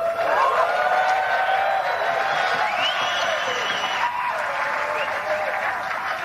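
A British crowd claps politely, tepid and muted, for about six seconds at an even, moderate level after a winner's speech with the claret jug trophy, without swelling. A few voices or faint whistles rise above the patter.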